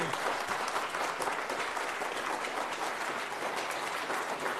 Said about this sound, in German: Ein Applaus für den Checker Tobi.